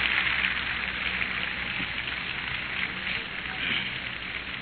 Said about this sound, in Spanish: Dele un aplauso al Ecuador, su tierra linda.